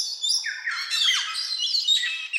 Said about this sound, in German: Dann gibt es natürlich auch, typisch für die Tropen, Gelbstimmpapageien, auch sehr schön.